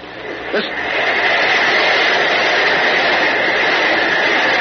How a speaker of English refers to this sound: Listen. The biggest water spout I ever saw, Uncle Jim. Thank goodness it's still a short way off.